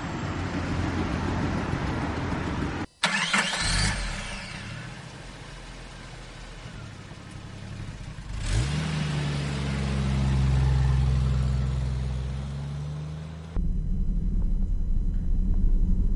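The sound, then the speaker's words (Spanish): A car engine rumbles, with a sharp click before it revs up and settles into a steady, low drone as the car sets off to tour Lake Lucerne in the Alps of Switzerland, over constant background noise. No one speaks. “Nos encontramos en el coche partiendo para recorrer el Lago de los Cuatro Cantones en medio de los Alpes.”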